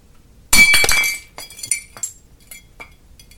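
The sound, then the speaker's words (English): A loud crash of glass shattering in a kitchen, followed by scattered tinkling and clinking as shards settle and skitter for a couple of seconds, with no voices. “Now I felt there's definitely going to be glass everywhere.”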